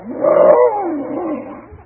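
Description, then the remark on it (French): A single deep, growling lion roar rises quickly and then rumbles downward, loud, lasting about two seconds with no talking over it. “C'était un lion qui est venu et qui s'est jeté sur quoi? Sur l'âne et qui a dévoré l'âne.”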